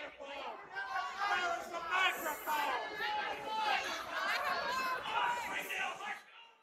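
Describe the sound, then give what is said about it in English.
A crowd of many voices shouts and talks over one another at a town meeting, accusing the speaker of wasting time and demanding the microphone, a loud, continuous babble of agitated voices that fades out at the end. “But the crowd was having none of it. They began accusing him of wasting time and eventually demanded the microphone.”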